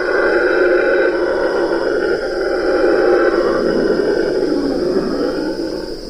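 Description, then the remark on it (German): A red howler monkey roars overhead in one long, loud, continuous bellow that holds steady for several seconds with a rough, droning texture and fades slightly at the end. “Über uns schrie ein roter Brüllaffe.”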